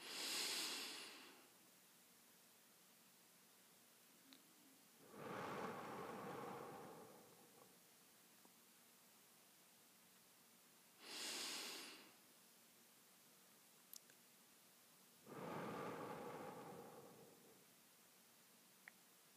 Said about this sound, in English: Great. Now, this breathing in a very short period could be a meditation by itself.